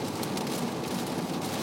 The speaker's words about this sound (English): The rain will not let me.